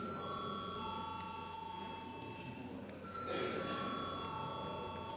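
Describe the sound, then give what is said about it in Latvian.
A continuous electric parliamentary bell rings steadily for several seconds before a vote, a bright sustained tone, with faint murmuring voices and room noise beneath it. “Lūdzu zvanu.”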